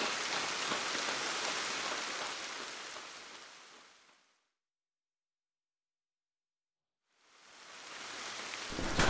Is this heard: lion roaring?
no